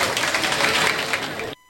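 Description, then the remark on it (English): A burst of applause, many hands clapping in a dense, steady roar for about a second and a half before cutting off abruptly into near silence. “give him an oblong applause here.”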